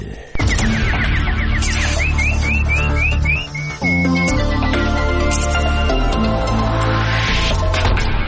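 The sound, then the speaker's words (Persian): A short burst of quick, rising nightingale chirps and trills introduces the news details in a Persian-language news segment. It rings out over loud, full instrumental music that keeps playing throughout, with no one speaking. “اینک مشروع خبرها با چهچهی همکارم بلبل.”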